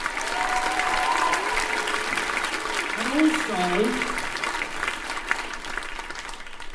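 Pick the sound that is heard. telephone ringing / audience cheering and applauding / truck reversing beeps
audience cheering and applauding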